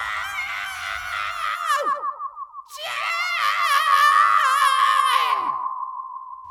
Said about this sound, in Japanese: やがて痛々しい男の叫び声が混ざって聞こえてきます。